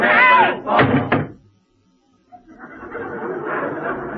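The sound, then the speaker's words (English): A crate lid is slammed shut with a loud, heavy bang amid raised voices, followed by a brief silence and then a steady rustling, shuffling noise. “Mary, you slammed it so hard you might have hurt him.”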